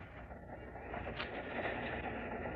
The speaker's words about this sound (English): Well, looks like something's quite strange around here. I can't imagine what's the train stopping here for? Well, I don't know. Maybe the engine broke down.